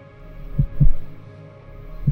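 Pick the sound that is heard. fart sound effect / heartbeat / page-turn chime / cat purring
heartbeat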